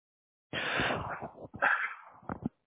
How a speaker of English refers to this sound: Sorry, I keep coughing. I think I'm under, I'm getting sick.